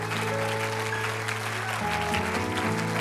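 A church audience gives the Lord a hand clap of praise before being seated, a dense, steady wash of many hands, with sustained organ-like tones humming underneath throughout.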